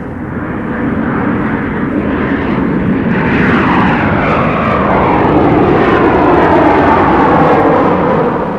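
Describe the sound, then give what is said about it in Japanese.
A jet airplane roars past, its loud, steady engine rumble swelling slightly as it nears, with a whining tone sweeping through the noise. No voices are heard. “ジェット飛行機の音なのだ。”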